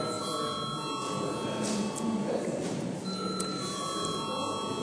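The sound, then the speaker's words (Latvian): A continuous electric bell rings steadily for the whole stretch, a sustained metallic tone over a low murmur and rustle, in a parliament chamber, rung after the debate ends to call members to vote. “Lūdzu zvanu.”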